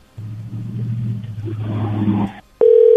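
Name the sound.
phone line tone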